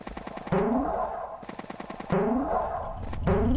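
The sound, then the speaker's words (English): A video game cannon fires a cannonball that chases the player, in loud, booming bursts with rapid rattling blasts and a rising whoosh repeating a few times over a dense rumbling background, no voices. “Bye, cannon.”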